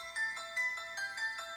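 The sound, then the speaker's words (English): The Exorcist theme plays as a bright, bell-like melody, a short figure of chiming notes repeating in steady pulses about every half second, with no voices over it. “It is the Exorcist theme song.”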